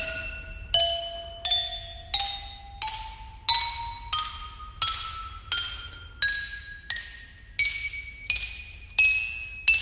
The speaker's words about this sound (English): les pilons du Sahara sont déclarés officiellement instruments de musique en 2009, appelés lithophones